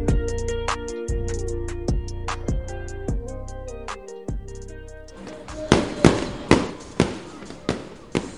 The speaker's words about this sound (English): Fireworks at Whataburger Field as we close down tonight's broadcast